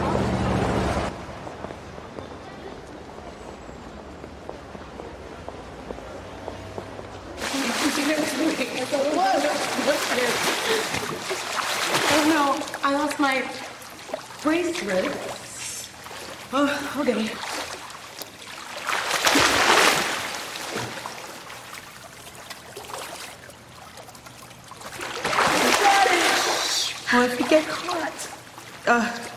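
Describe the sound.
Water splashes and sloshes in bursts during water play after a quiet opening, mixed with excited voices calling out, with louder surges of splashing near the middle and end.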